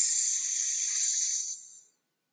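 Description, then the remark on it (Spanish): A voice imitates a snake's hiss during a guided group exercise, a steady, breathy "sss" held for nearly two seconds before tapering off into silence. Fairly loud, with no talking. “Vamos a imaginar que somos una serpiente. ¿Saben cuál es el sonido que hace una serpiente?”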